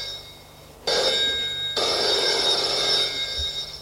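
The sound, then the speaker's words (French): A telephone rings with a bright, electronic trill in two sustained bursts, loud, after a brief quiet moment; no one speaks. “Le téléphone sonne.”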